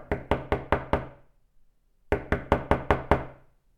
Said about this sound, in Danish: Samme aften bankede bevæbnede kamuflæseklædte mænd på Pauls dør, mænd som Pavel dog nægtede at lukke ind, men lavinen var begyndt at rulle.